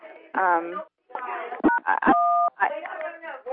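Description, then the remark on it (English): Two phone keypad tones, a short beep followed by a longer held one, from pressing *6 to mute a phone, sound amid people talking in the background. “Someone may need to do #6 or *6 rather to mute your phone if your background's very noisy.”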